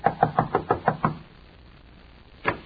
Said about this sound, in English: Knock on the door, Mark.